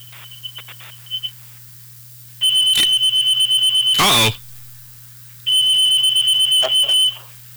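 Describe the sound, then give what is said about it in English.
A smoke detector shrills in two long, loud bursts of rapid high-pitched beeping, with a few short chirps at the start and a clattering noise between bursts over a steady low hum. “The alarm going off?”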